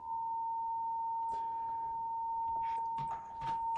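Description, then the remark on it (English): A steady electronic ringing tone from a small audio recorder holds at one pitch for the whole stretch, with faint rustles and clicks in the background. “I have a ringing noise coming from my little recorder here.”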